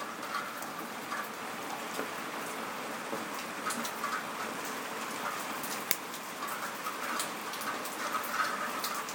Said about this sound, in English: And I just thought I'd do a quick boo to update you guys and let you listen to the rain.